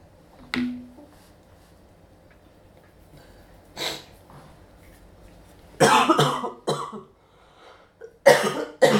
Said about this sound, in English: Oh, now mommy's coughing.